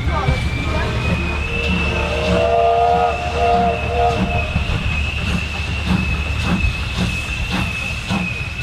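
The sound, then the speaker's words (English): A steam locomotive rumbles past with rhythmic chuffing and clanking, a thin high whistle tone holding steady throughout while a lower, richer whistle sounds briefly early on; the whistle is that of the locomotive Tornado. “and hearing the whistle of the Tornado.”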